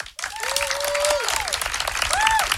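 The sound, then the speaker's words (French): A live drag show audience applauds loudly, dense, steady clapping filling the whole moment, with a few rising whistles and cheers cutting through the crowd noise. “Il applaudit.”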